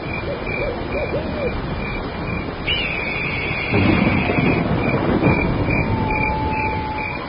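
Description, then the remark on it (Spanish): A thunderstorm in a forest: steady rain-like hiss throughout, with a deeper rumble of thunder swelling midway and an owl-like hoot early on, no voices. “Pero en un claro no estaremos seguros tampoco. Con esta tormenta.”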